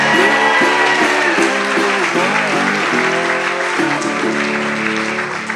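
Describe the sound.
Loud, sustained audience applause for the evening's band at Starving Artist Cafe in the Argenta Arts District of North Little Rock, Arkansas, a dense wash of clapping that holds steady for several seconds, with voices cheering and calling out over it before it eases slightly at the end.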